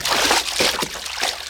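Rough, very choppy sea water churns and sloshes steadily, broken by a few sharper splashing bursts as someone jumps into the sea. Fairly loud, with no voices.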